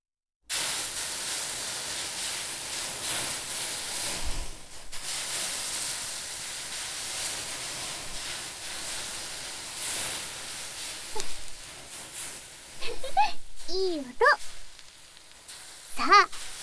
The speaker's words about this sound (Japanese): もう一回お水を、さらに蒸気を出していきますね。